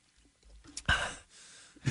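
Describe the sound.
A person imitates the gasp a man makes after finishing a drink, even after one sip: one sharp, breathy exhale, trailing into a softer breath, with quiet moments before and after.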